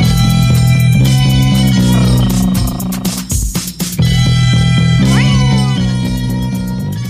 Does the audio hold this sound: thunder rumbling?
no